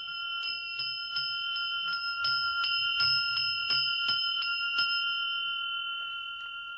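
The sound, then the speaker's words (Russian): A small cast bronze bell of the 'Dar Valdaya' (Gift of Valdai) type rings steadily, struck about a dozen times in quick, slightly uneven succession, its clear overlapping tones sustaining and then fading out after the last strikes. Fairly loud, with no voices. “Вот колокольчик типа «Дар Валдая».”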